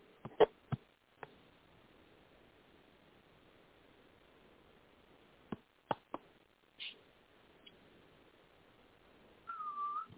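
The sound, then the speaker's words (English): A few scattered clicks and taps over a faint hiss, then a short, clear whistled note slides in near the end, held briefly at moderate loudness with no voices present. “I've grown accustomed to the tune. She whistles back at you.”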